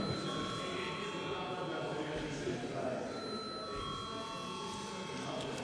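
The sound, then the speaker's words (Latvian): A continuous electric bell rings steadily for several seconds without a break, its sustained metallic tone heard over a low background murmur in a parliament session, rung at the chair's request before deputies vote on a proposal. “Deputāti prasa balsojumu, lūdzu zvanu.”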